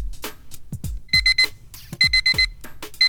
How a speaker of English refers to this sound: Oh, and there's the beeper to remind me of what? Oh, I don't know. To remind me of this.